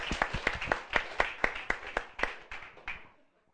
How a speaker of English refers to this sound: Tak si můžeme zatleskat. So let's clap to each other.